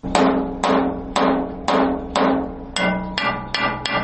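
A blacksmith's hammer strikes metal nine times in a steady rhythm, each blow a loud, bright ringing clang that decays before the next, the last few coming slightly quicker. No one speaks.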